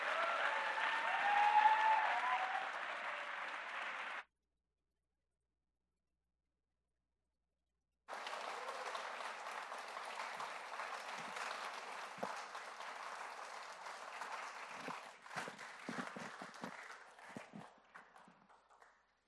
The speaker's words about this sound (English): So our worship service is over. So we can have a round of applause for Robert Bradley taking a week to come and speak.